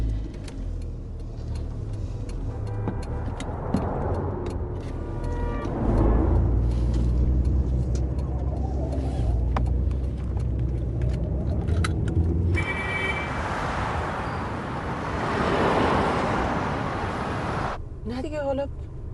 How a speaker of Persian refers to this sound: ترافیکه دیگه مادر، شب یلداست.